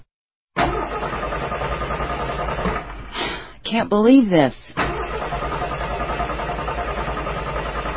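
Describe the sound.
A car engine rumbles steadily, then sputters and chokes in a few uneven bursts midway as the car breaks down just after midnight on a dark country road, before a steady background drone resumes. A person speaks briefly over it.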